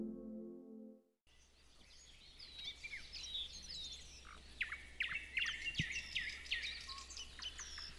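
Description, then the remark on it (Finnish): On a warm morning under a grey sky at Siikalahti in Parikkala, Finland, nightingales, thrushes and spotted flycatchers sing together in a busy outdoor chorus, overlapping whistles, trills and chirps pouring out continuously over a faint low background rumble, with no talking. “Kyllä, tässä on satakieliä ja rastaita ja harmaasiepot myös äänessä.”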